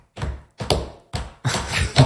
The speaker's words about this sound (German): Man hört nur die Leute trampeln, aber man hört keine Musik und jeder, deswegen habe ich es auch so unrhythmisch gemacht, jeder trampelt in seinem eigenen Takt